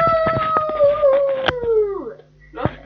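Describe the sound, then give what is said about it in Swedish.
A single long, fairly loud howl from a person, on a home tape recording, holds a steady tone and then slides slowly downward in pitch before trailing off, with sharp clicks over it and a short rustle afterward. “När du började yla så där, stängde jag av.”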